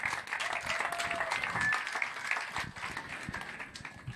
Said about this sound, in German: So, nochmal ganz kurz Applaus an unsere Bürgermeisterin.